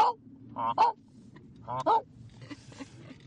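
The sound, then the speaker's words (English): Snow geese honking in two clear bursts of paired nasal calls, followed by fainter honks from a flock over a low background rumble, as the weather turns colder and they prepare to head south. “Sometimes you can hear them coming, all honking away.”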